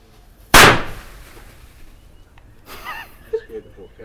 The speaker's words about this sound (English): Yep, description is there is a firecracker which has been sticky taped to a 20 watt fluorescent tube, and it's sitting out on the table here in the backyard. On a metal plate.